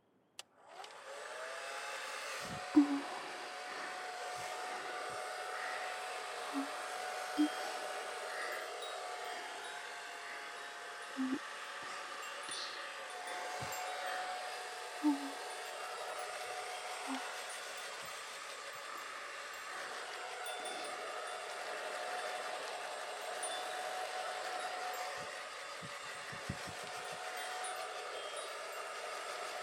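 hair dryer blowing

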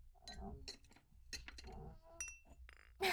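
wine glasses clinking

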